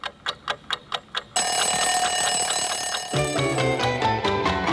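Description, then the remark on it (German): An alarm clock rings in about six quick, evenly spaced bursts, then loud, full music abruptly takes over and continues, getting a heavier beat partway through; the opening of the Ö3 Wecker program on the ORF radio station Ö3. “Der Ö3 Wecker mit Nachrichten, Sport, mit ausgeschlafenen Moderatoren und mit Musik zum Aus der Decke springen.”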